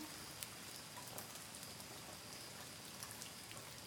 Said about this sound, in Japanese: あとね、雨降ってきちゃったか。今日は晴れるって言ってたのにな。